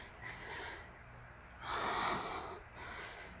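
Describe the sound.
Heavy, breathy snorting, like a horse: three rushing exhalations with no talking, the middle one louder and longer, broad and airy, with a short sharp burst at its start.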